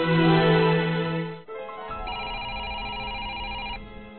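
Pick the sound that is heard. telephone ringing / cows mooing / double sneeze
telephone ringing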